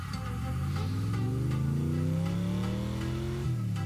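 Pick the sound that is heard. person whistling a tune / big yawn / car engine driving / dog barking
car engine driving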